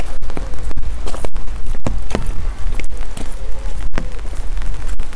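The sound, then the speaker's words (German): Heavy, pouring rain drums steadily on an umbrella, recorded with a Tascam held to the umbrella on the way to work in warm weather, a dense, loud hiss broken by sharp thumps and taps, with what sounds like footsteps underneath. “Ja, strömt Regen, ne?”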